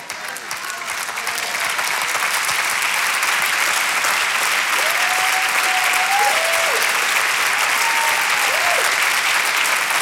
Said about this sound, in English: Clap your hands if you feel the Spirit of God in this place stirring up. It's stirring up your spirit.